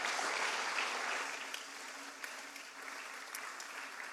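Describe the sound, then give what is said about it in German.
A crowd claps steadily to welcome a guest speaker, a dense wash of many hands that starts strong and eases slightly in volume as it continues, with no voices standing out. “Gebt ihm doch einen herzlichen Applaus.”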